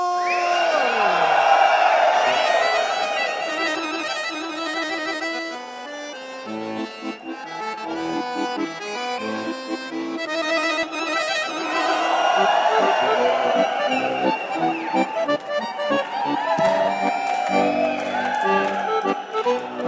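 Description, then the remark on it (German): About a hundred young people in the Casino cheer, whoop and whistle enthusiastically for Mozart, Bach and Dvořák during a classical accordion battle. They keep it up nonstop for twenty seconds, a loud, dense mass of overlapping shouts with bright high whistles cutting through, swelling again toward the end. “Hundert Jugendliche johlen und pfeifen begeistert für Mozart, Bach und Dvorak.”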